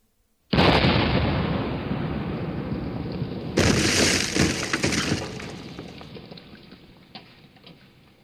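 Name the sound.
warship cannon shot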